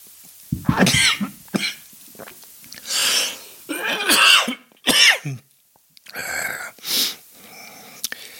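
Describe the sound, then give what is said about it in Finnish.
A fit of harsh, sputtering coughs from someone choking on water that went down the wrong way, not a cough from illness or COVID, six or seven bursts with ragged gasps between them. “Tämä ei ole yskää eikä koronaa. Tämä on veden väärään kurkkuun menemistä.”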